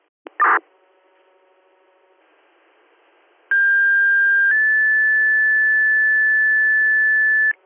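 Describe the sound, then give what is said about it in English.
Fire dispatch paging tones over a radio, sent again by Richmond dispatch to King Mills 1701 for a smoke detector activation call: a short burst, a faint hum, then two long steady electronic tones in sequence, the second slightly higher, loud and continuous with background hiss. “If you can trip the tones one more time, please.”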